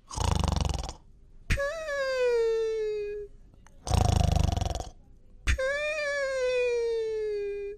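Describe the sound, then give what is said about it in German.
A sleeping dinosaur, Dino Hermann, at the centre circle snores in two slow cycles, each a rough, rasping intake followed by a long, whistling tonal breath out that gradually slides down in pitch. No one speaks. “»Was hat der Dino denn?« fragt Patrick und zeigt auf Hermann, der doch tatsächlich eingeschlafen ist und sogar ein bisschen schnarcht.”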